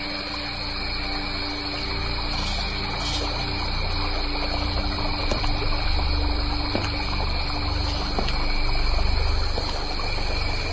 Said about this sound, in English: And so the river Yusufrut does rise.